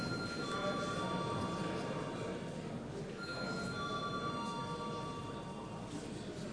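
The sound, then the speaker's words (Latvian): A parliament voting bell, called for before deputies vote on a draft decision, rings continuously for several seconds, a steady, shrill electric tone with a faint shift partway through, over a constant rumbling background noise. “Lūdzu zvanu.”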